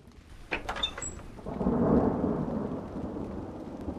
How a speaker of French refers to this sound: Un soir, par un temps affreux, éclairs et tonnerre, cascade de pluie, que c'en était effrayant